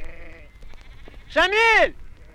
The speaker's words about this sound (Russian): Мы медленно сгоняем стадо. Ритм работы невольно захватывает. Вот овца отбилась, пошла куда-то вправо. Наша, соседская.